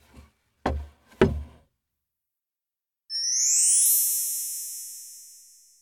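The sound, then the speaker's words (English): A soft tap, then two firm knocks on a door, followed after a short pause by a bright, shimmering chime that rings out and slowly fades. “It's a door.”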